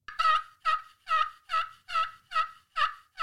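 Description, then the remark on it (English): A voice imitates a turkey gobble to call birds, a rapid series of about eight warbling, throaty bursts in steady rhythm, loud, with no other talking. “Me and you've got special abilities in calling birds.”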